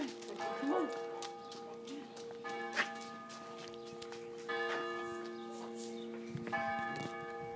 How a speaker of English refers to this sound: But I was just listening to the church bells. Oh, yeah, they're really cool.